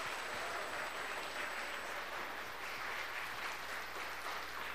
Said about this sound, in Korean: 박수 한번, 큰 박수 보내주시면 제가 한번 보여드릴게요.